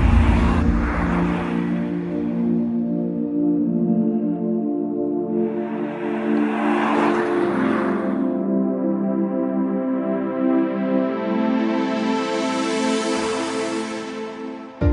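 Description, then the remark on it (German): Sustained, droning synth chords play steadily throughout, with three broad whooshing swells rising and fading over them, music from an advertisement video for a Tesla car. No voices. “Musik aus einem Werbevideo für den Tesla.”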